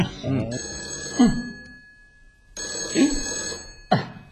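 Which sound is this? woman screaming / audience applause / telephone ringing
telephone ringing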